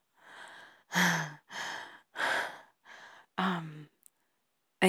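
A series of heavy, loud breaths, about six in a row, deep sighing inhales and exhales with brief gaps between them and no talking.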